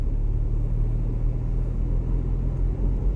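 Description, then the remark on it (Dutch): Steady low rumble of a car interior while driving in search of owls, a constant engine and road drone filling the cabin with no voices and no breaks in the noise. “In de auto op zoek naar uilen, jongens.”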